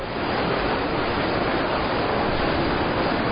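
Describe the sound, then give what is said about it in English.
Heavy rain pours down in a steady, unbroken hiss, a dense wash of noise that stays at an even loudness throughout, with no voices or other sounds. “The rain is making sure of that.”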